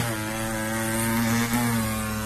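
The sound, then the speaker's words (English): A voice imitates an electric hair trimmer with a steady, loud, droning buzz, rich in harmonics and held for about two seconds with only a slight dip in the middle. “Give me a trim. A trim.”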